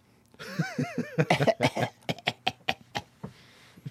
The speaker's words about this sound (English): Let's just role play here. Okay? Let's do that. So can I start coughing?